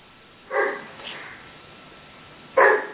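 Two sharp dog barks, one early and a louder one near the end, separated by a couple of seconds of quiet room noise; no one speaks.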